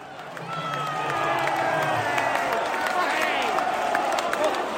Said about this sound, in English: As you may be able to hear, the Watford faithful are cheering. An absolute incredible finish from Asprey from about 22, 23 yards on his left foot.